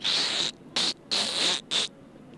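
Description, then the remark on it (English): A voice imitates Donald Duck laughing: four raspy, buzzing bursts alternating long and short, fairly loud, with no other talk. “Can you laugh like Donald Duck?”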